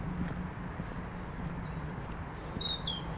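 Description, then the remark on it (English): Sparse birdsong in City Oak Park on a cold, grey Sunday morning: a few thin, high chirps and short whistled notes, some sliding downward, faint over a steady low rumble of background noise. “There's not serious bird song today.”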